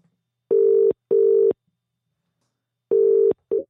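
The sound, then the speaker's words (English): An outgoing phone call to a turf influencer ringing: two quick pairs of steady electronic buzzes with a long pause between, clear and fairly loud on the line, with no one speaking. “So I gave him a bell.”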